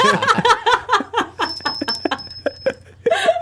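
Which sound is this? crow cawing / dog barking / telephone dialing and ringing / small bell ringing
small bell ringing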